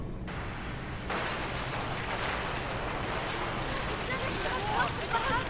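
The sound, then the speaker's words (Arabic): A yacht explosion in recorded footage from the night of the blast, shot from another angle: a sudden blast swells into a dense, sustained roar of rumbling noise, with faint crackling flickers near the end, loud throughout. “لقينا تصوير من ليلة انفجار اليخت.”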